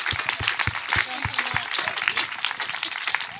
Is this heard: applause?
yes